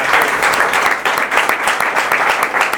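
Sustained applause from an audience, many hands clapping densely and steadily at a fairly loud, close level, with no speech over it.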